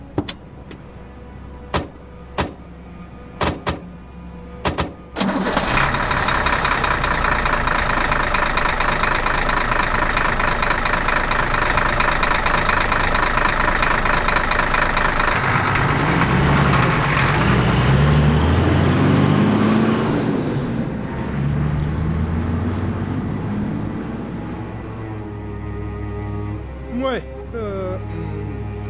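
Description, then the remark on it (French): A few sharp clicks, then a car engine starts up and runs loudly and steadily, its pitch rising and falling briefly as it revs before settling back to a continuous idle. “Monte dans ma voiture.”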